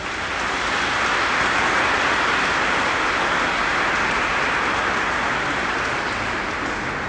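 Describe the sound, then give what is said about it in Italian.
An audience applauds for the jubilarians of Brazil, mainly Sister Maria Candida, a dense, even wash of many hands clapping that holds at the same fairly loud level for about seven seconds, with no voices over it. “E allora l'applauso che facciamo al Brasile va principalmente per Suor Maria Candida.”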